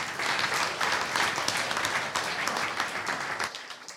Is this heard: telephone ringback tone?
no